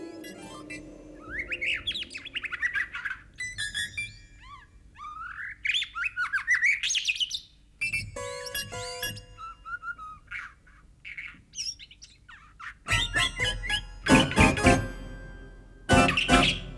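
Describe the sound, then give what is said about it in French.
Recorded birdsong of bright, rising chirps and trills alternates with sharp, plucked notes from a harpsichord played live in response to the recordings, in the work Corvar. Busier, louder bursts close the passage, and no one speaks. “C'est ce que l'on constate dans Corvar, une œuvre où des enregistrements de poèmes en langue Xhosa, des chants d'oiseaux ou encore de baleines donnent la réplique et conditionnent le jeu en direct d'un clavecin.”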